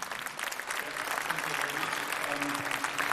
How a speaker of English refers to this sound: So please give a big warm round of applause